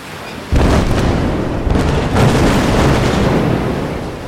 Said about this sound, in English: He uses this explosive to destroy the rock. They run to the raft before the terrible explosion.